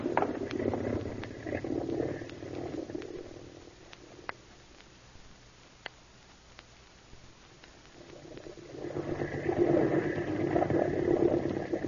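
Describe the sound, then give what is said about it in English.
A motorboat engine runs with a steady, throbbing drone that eases back for a few seconds mid-way, then swells louder again toward the end, with no voices. “Hop in the boat and we'll get going.”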